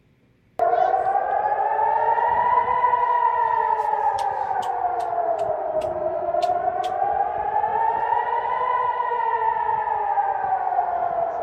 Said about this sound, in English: Air raid sirens sounded over Israel as long-range missiles fired by Yemen's Houthi rebels were intercepted before crossing into Israeli territory.